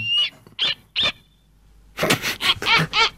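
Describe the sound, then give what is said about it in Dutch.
A snowy owl calls with harsh, raspy cries: three short screechy notes, a brief pause, then a quick run of about five louder, rougher barking shrieks, with no voices. “Ik vind dat zo grappig, die geluiden, want die valk en die sneeuwuil, die zal je nauwelijks iets horen roepen.”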